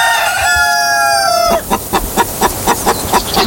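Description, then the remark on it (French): A hen crows with a long drawn-out call, then breaks into a steady run of about eight sharp, rhythmic clucks, loud, with no talking. “Et chaque jour, une poule nous pond un chiffre.”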